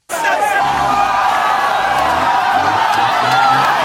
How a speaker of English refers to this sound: And then the crowd there shouts as a team of the guys in the protective suits come out, catch the man, kind of chase him down, catch him, and push him into the back of a truck to be brought back to the clinic.